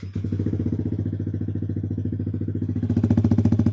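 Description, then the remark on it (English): A motorcycle with a newly installed aftermarket exhaust idles after being started already warmed up, a deep, loud, steady lumpy pulsing with rapid regular firing beats and no voices. “It's definitely much deeper and louder than compared to the Dominator exhaust we had previously.”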